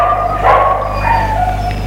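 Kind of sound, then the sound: animal, dogs barking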